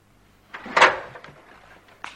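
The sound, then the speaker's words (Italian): A folding table is swung open with a few wooden clunks and a scraping rattle, then a sharp click as it locks into place at the end. No one speaks. “Ecco qua, tavolo ribaltabile.”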